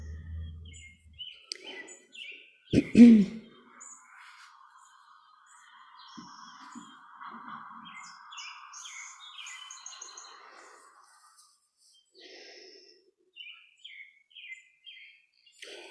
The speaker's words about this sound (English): So thank you for sharing these birds as we talk.